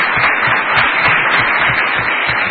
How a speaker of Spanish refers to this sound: Fuerte aplauso para los dos fenómenos que tenemos aquí.